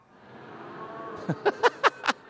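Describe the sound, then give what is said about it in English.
An audience splits into two sides on a count of three, one side baaing like sheep and the other mooing like cows, a blended droning chorus that swells, then breaks into a quick series of five or six short, rhythmic vocal bursts. “All right, everybody on this side, I want you to be sheep. You just baa. All right, and everybody over here, I want you to be cows and you moo.”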